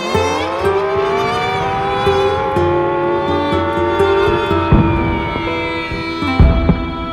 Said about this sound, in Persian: توجه توجه، علامتی که همکنون میشنوید اعلام خطر یا وضعیت قرمز است و معنی و مفهوم آن این است که حمله هوایی انجام خواهد شد. محل کار خود را ترک و به پناهگاه بروید.